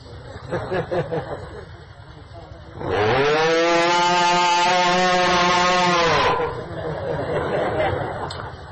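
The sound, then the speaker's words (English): A loud, drawn-out cow moo sounds once for about three seconds, rich and steady, with muffled talking heard before and after it. “That one mooing of a simple cow is more pleasing to Krishna than everything we could possibly do in our lives, because they are mooing in pure, unalloyed devotion.”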